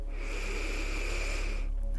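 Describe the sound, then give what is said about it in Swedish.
A slow, deep inhale, a steady airy rush with a faint whistling edge that lasts nearly two seconds before cutting off. No one speaks. “Andas in.”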